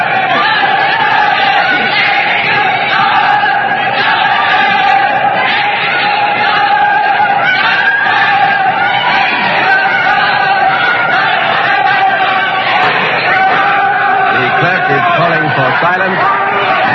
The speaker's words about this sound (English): The words are justice, execution, justice, execution. The shouts for and against the king are crashing here in this courtroom. Let's listen to them.